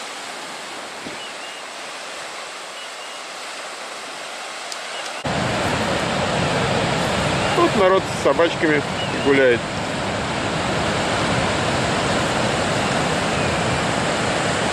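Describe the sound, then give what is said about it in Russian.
A steady, rushing roar of sea waves rolling onto a wide beach of white sand in strong wind swells in partway through and continues without pause, loud, while a person speaks briefly over it. “Песочек красивый, и там дальше открывается такой простор, широченный пляж. Смотрите, как здорово, волны.”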